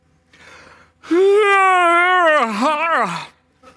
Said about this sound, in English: And at last, a young woman entered slowly, and she looked like a sleepwalker. Eyes nearly shut, jaw slack, feet dragging. She yawned as she slid into the chair.